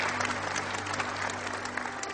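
Steady applause from a crowd, many hands clapping densely and continuously at moderate volume, with a faint low hum underneath throughout.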